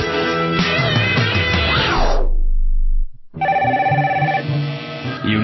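A telephone rings loudly, mixed with dense musical tones, then breaks off into a low hum and a brief silence before the ringing bursts back in.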